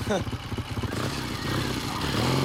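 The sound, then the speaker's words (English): A motorbike engine revs and pulls away, its throaty buzz rising steadily in pitch and loudness over a couple of seconds, with a brief low rumble at the start. “rides off on his motorbike.”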